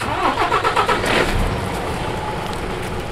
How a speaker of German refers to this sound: Gerade verlässt der Milchtransporter den Hof in der Region Kharkiv.